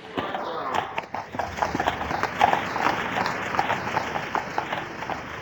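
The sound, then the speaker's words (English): Hooves of a horse pulling a cart clip-clop in a steady, brisk rhythm, loud, over a constant busy background din with faint indistinct voices. “in his pocket, I should say, which he would operate to keep the signals green to allow the horses and carts through.”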